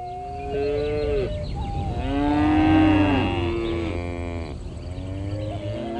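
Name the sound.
cows mooing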